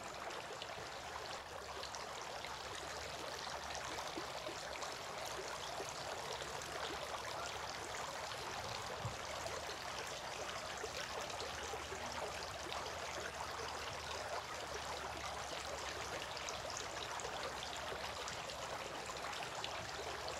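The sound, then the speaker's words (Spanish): Water trickles and splashes steadily for the whole stretch as a person scoops water by hand to wash the right forearm and then the left forearm, a continuous wet rushing with no pauses and no voices. “Luego tomaba agua con su mano y se lavaba su antebrazo derecho, y de nuevo tomaba agua con su mano y se lavaba su antebrazo izquierdo.”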